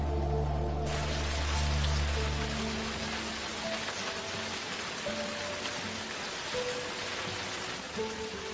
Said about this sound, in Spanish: La lluvia empapa estos bosques templados, haciendo de Olympic uno de los lugares más húmedos en los Estados Unidos.